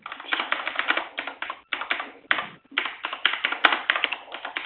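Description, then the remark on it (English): Rapid, steady typing on a computer keyboard by a participant on an online meeting call with the microphone unmuted, a dense run of crisp key clicks with brief pauses, moderately loud, with no voices. “Is someone typing without mute?”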